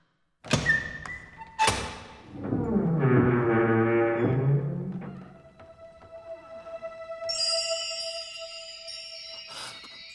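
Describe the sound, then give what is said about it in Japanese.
A large door opens: two heavy thunks, then a long, loud grinding rumble as it slides, settling into a sustained bright shimmering chime and a final clank. No one speaks. “今からこの扉を開け、あなたに勇気を授けます。”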